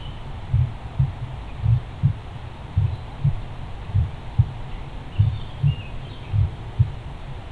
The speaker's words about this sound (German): Und während du seinem Herzschlag lauscht, beginnt er zu dir zu sprechen.